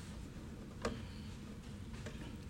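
Two faint, sharp ticks about a second apart over a low background hum, like a clock quietly ticking.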